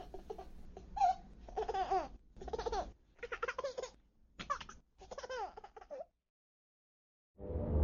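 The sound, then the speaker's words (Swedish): A baby laughs and giggles in a run of bright, squealing bursts, fairly loud, then falls silent before a short burst of noise at the very end. “Det finns ingenting som låter härligare än barnskratt. Bebisar som skrattar.”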